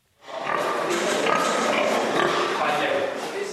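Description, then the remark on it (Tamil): A dense, continuous chorus of chimera pigs, genetic mixes of two different pig types bred by Japanese scientists, grunting and snorting on a farm, the overlapping noises filling the whole stretch at a steady, fairly loud level. “இவை சாதாரண பன்றிகளைப் போல தோன்றலாம், ஆனால் உண்மை அதுவல்ல. இது சாதாரண பண்ணையும் அல்ல.”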